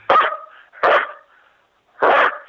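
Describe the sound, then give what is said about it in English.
A person imitates a dog barking: three loud woofs, the first two about a second apart and the third after a longer pause, with nothing else in between. “I'm not good at the howl, but if I could try the bark, is that all right?”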